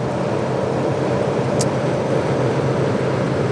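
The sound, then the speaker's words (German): Steady, unbroken road rumble of a car driving on a motorway at about 140 km/h, a dense low roar with hiss on top and one brief faint high tick midway; no one speaks. “Also im Moment ist es chillig zu fahren, muss ich sagen.”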